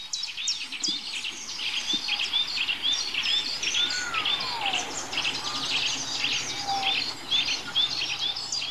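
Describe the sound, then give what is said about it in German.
An odd, sliding bird whistle rises and falls a couple of times over a busy chorus of high chirping birdsong, steady throughout at moderate volume with no one talking. “Was pfeift denn da für ein komischer Vogel?”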